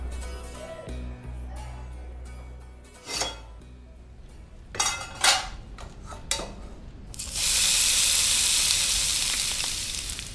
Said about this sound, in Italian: Lascio la padella bruciata sul fornello, ci butto un po' d'acqua dentro. Vedo quello che doveva essere il mio sugo mattutino farsi poltiglia bruciacchiata che galleggia.